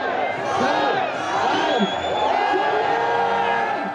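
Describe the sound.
A large crowd cheers and whoops continuously at night at the Brandenburg Gate in Germany, as cannabis possession and consumption became partly legal on 1 April; a dense wash of overlapping shouts and high voices holding steady at a loud level throughout.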